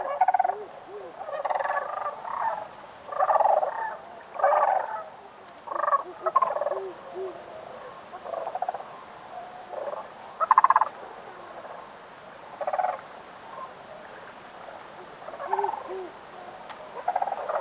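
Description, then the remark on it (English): Cranes call again and again in rolling, throaty, croaking bursts, a dozen or so uneven calls at a mid pitch, with no voices, just a soft background hush between them. “And as you listen to the reptilian call of the crane, release any need to control or shape your journey.”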